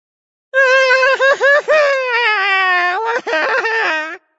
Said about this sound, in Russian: Раздался в утренней тишине душераздирающий крик. Это кричал шпион Дырка. Разбойник проснулся от того, что его кто-то сильно уколол в бок.